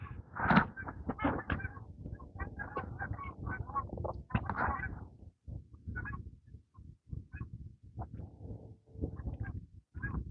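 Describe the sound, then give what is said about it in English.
A flock of geese honks continuously overhead under a blue sky, overlapping calls in irregular bursts that thin out slightly toward the end. The honking is moderately loud, with no talking. “Ooh, I hear geese.”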